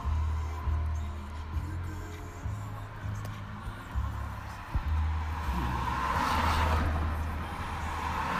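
Steady traffic on a busy road rumbles from inside a taxi, a deep low engine drone with passing cars swelling and fading, and a louder hissing whoosh of a vehicle going by near the end.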